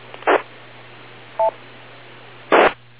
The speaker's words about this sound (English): Hold on 1 second. My boss is trying to call me, as you can hear. Hold on.